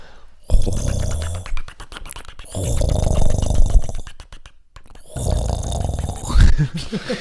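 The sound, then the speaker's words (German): A person imitates a gurgling drip coffee machine with their voice, making three bursts of wet, rattling, bubbling noises separated by short pauses, loud. “Oh, sollen wir eine Kaffeemaschinen-Imitation machen?”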